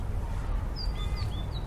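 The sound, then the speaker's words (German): A pet parrot gives a quick series of short, thin whistled chirps, about five in a row, moderately clear over a steady low rumbling background noise. “Ach, ich liebe meinen Papagei.”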